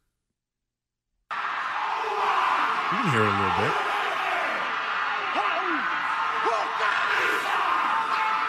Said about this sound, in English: It's mostly crowd noise, though.